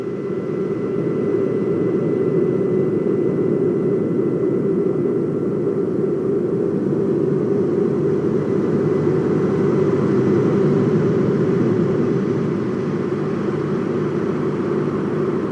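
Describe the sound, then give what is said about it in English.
A fighter jet's engine roars steadily and loudly for the whole stretch in video footage, a dense, low rushing drone with no pauses and no voices. “And I watched this video, and it's pretty obvious what happened. He lost sight of it, and he crashed into it.”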